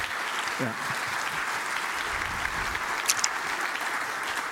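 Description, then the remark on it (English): An audience applauds steadily as a speaker is called up, a dense wash of many hands clapping at an even level throughout, with a brief murmur of voices underneath. “And thus, a big applause”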